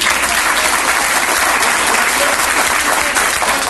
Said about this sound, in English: And those brain fucking dead political ass kissers in Washington, D.C., they applauded that shit.